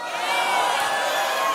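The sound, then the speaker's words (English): An audience cheering and whooping together, a dense, steady wash of many voices that swells slightly midway and holds loud throughout, with no single speaker standing out. “And some of you can't even cheer about it because you're so lukewarm.”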